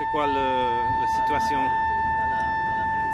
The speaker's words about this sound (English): Normally in Haiti, if you get really sick, you almost never hear this sound. An ambulance.